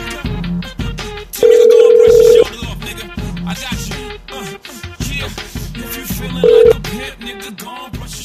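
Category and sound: signal or alarm, telephone tone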